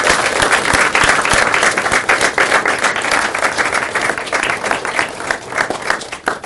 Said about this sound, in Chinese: 如果你是服务了这三年的闭关者的话，我想要给他们来鼓掌，鼓掌一次。